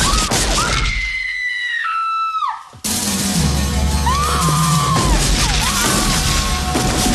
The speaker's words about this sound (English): Rosta runs. He shoots but misses.